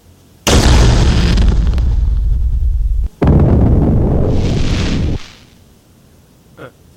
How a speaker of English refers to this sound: The rifle fires like any other rifle. With a trigger once pulled, the ordnance is set to target, and once penetration of said target is made, then the ordnance sets off a small explosion of nitrogen.